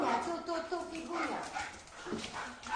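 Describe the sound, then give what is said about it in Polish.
An excited young Labrador, Figa, whines and whimpers in high, wavering cries as she is being adopted, broken by a few short yips and barks, steady throughout the brief moment. “To jest możliwe, że ten pies już wie, że zostanie adoptowany i tak się cieszy?”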